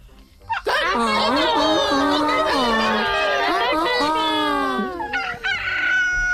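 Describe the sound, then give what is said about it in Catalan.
Several voices imitate a rooster crowing together as part of a series of animal imitations, a loud, sustained cock-a-doodle-doo lasting about five seconds with wavering pitch, ending in a brief ragged tail. “I un gall.”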